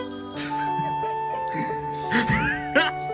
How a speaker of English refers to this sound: Phone call made him stop.